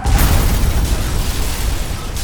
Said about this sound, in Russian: Фура на большой скорости въезжает в нашу маршрутку. Мир переворачивается.